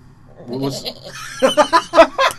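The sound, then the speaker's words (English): A voice imitates a sheep's bleat to call a sheep: a low drawn-out note, then a quick run of loud, pulsing, wavering bleats with no other talk. “You have to sneak up on it. You do have to sneak you up do, on it. You do. And then you give it the call.”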